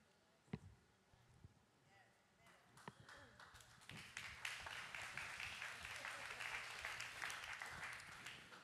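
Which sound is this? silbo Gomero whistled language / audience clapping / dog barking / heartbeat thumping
audience clapping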